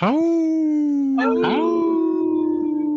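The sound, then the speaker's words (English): Several people howl together in imitation of wolves, long rising-and-falling wails overlapping, with more voices joining partway through, loud, holding the tone to the end. “Howl! Wow, now that sounded like a bunch of us.”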